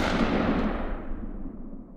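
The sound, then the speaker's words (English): A loud Luger pistol gunshot cracks right at the start, fired inside a house at people in a bathroom, then its rumbling echo slowly fades over the next two seconds. No one speaks. “His eyes have gone black, and it's as if he's being remotely controlled by some dark entity when he interrupts the relaxing scene in the bathroom and begins firing on his parents.”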